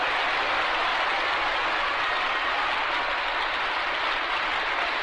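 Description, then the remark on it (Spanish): Steady, dense applause from a large opera audience in Mexico for Piero Campolonghi in the role of Ricardo in Los Puritanos, a continuous crackling wash of many clapping hands at even loudness with no voices on top. “Pero Piero Campolonghi, cuyo papel de Ricardo en la obra Los Puritanos no le daba especial lucimiento, por primera vez siente el aplauso.”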